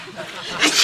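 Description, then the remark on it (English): A single sneeze: a brief breathy intake followed by a sharp, hissy burst of air that ends the short moment. “Bless you.”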